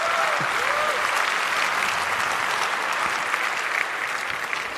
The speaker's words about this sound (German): Meine Damen und Herren, die höchste Datensicherheit Deutschlands. Applaus für Teleklinik.